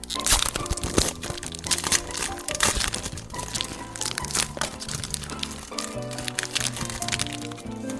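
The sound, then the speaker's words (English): Loud, continuous crinkling of the wrapper of a Star Trek The Next Generation Portfolio Prince Season 1 trading card pack, with dense crackles and crunchy snaps rustling on and off for several seconds, held right up against the microphone, with no talking. “I'm going to do this right up against the mic so that they can hear all the little crinkles.”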